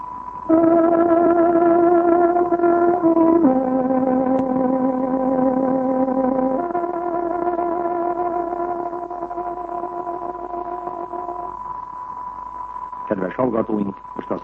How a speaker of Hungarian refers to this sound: Kedves hallgatóink, pontos időjelzést adunk. Tárogatónk 11 órát jelez.